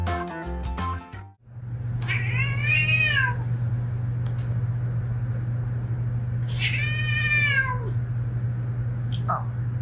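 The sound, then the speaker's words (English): A cat meows twice, each a drawn-out, wavering cry several seconds apart, over a constant low droning hum, with a short tonal sound at the very start. “Only when the tables turn does the cat truly understand the value of privacy, huh?”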